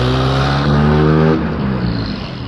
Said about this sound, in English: The guy in the little sports car that just went by. One of those.